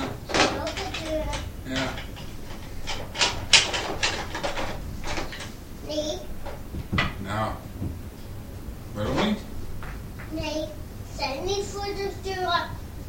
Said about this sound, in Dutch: Nee, dat zijn de deuren! Ah, dat zijn de deuren! Dat zijn de deuren!